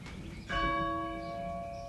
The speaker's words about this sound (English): Here's the rope for the bell in the church, and Ruth and I's little children would jump up and grab the knots on the rope and pull the bell down after church.